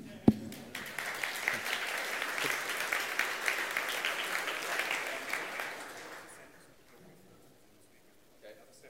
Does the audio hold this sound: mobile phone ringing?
no